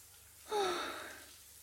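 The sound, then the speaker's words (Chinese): A shower head in a room is turned on, bursting with a brief squeaky tone, then a steady hissing spray of water that eases slightly as it settles. Nobody speaks. “终于到房间了，感觉全身都好热，先打开淋浴喷头。”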